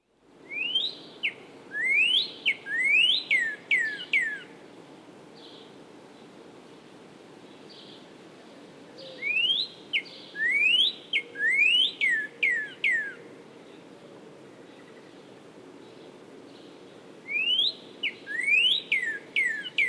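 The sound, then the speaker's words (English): A northern cardinal repeats clear, rising, upslurred 'wheat' whistled notes in three quick bursts of several calls each, loud over a steady soft hiss of background noise. “Now the upslurred wheat, wheat.”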